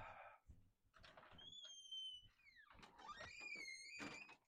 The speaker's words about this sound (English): His mic probably disconnected and he slammed my door like I forgot my shoes. You slammed the door a second time.